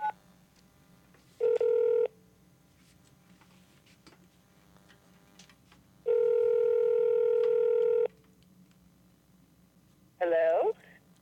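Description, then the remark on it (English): Telephone tones as a call is placed: a short electronic beep burst, then a longer steady two-second tone, and a brief warbling tone at the end, over a low constant hum. “how do I make a phone call? Here, I'll show you.”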